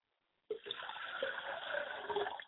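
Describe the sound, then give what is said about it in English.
Liquid is poured as a libation for Oladulama Ray and in honor of Akamare, in a steady, continuous splashing stream for about two seconds, starting abruptly after a brief silence, with a bright, hissy, moderately loud sound and no voices. “So we pour the libation for Oladulama Ray and for the three manifestations of the Godhead, Akamare, in honor of Akamare, where we say Ashe.”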